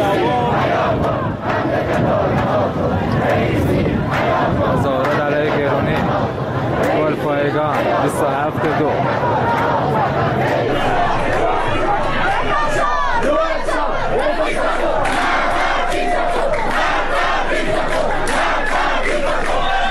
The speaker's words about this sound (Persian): ویدیوهای دریافتی از اعتراضات سه‌شنبه شب در گلپایگان حاکی از حضور گسترده مردم و شعارهای آنها علیه مقامهای جمهوری اسلامی بود